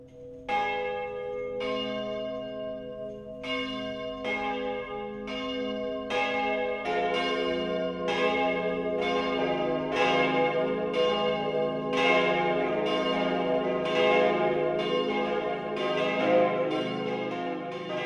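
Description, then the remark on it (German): The bells of the town parish church St. Andreas in Parsberg, Upper Palatinate, Germany, ring the 12 o'clock noon peal, several bells striking in an overlapping, steady rhythm with bright metallic tones and long humming resonance, growing fuller and louder as more bells join, with no voices. “Das Mittagsläuten kommt heute von der Stadtpfarrkirche St. Andreas im oberpfälzischen Parsberg.”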